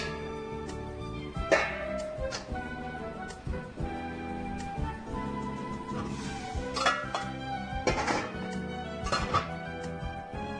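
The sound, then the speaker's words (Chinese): A dish knocks and clinks against metal as it is set into a steamer pot to be steamed for about twenty minutes, with a few sharp clatters spread over several seconds above a steady background hum. “好，那我们呢把它呢就直接放到蒸锅里面。”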